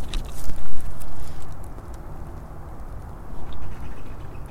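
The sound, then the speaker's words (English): A tractor engine on a farm behind the speakers rumbles steadily in a low, rough drone, with a few brief clattering knocks near the start and no voices. “And the sounds you hear in the background is a tractor or something in the farm behind us.”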